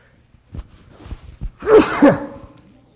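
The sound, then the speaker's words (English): A person sneezes once, a loud burst preceded by a few short catching breaths, with no talking around it. “Do not say bless you. You save that for yourself.”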